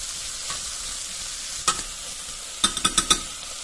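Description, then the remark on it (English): A steady bright sizzle of leeks and vegetables frying in a pot for vichyssoise soup, broken by a scrape of a spoon and then a quick run of four or five clacking stirs against the pot's side. “You want to keep stirring the vegetables, okay?”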